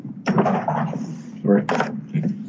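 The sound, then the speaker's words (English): A door is opened and shut as someone enters, with a couple of clunks and rattles, while a muffled voice murmurs underneath. “sorry, I just had to enter the door there.”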